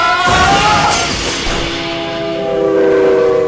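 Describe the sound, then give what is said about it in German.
A car breaks through a railway crossing barrier with a loud crash of splintering, shattering material, followed by a long, rising blare of a train horn holding a steady tone over rumbling noise. No one speaks. “Edi, das ist bloß ein beschrankter Bahnübergang. Na warte, da brechen wir durch.”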